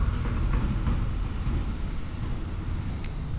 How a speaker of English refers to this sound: A big county truck is driving through the tree dump over there. Across the creek on the other side.